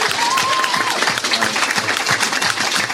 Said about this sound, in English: I want us to all have a round of applause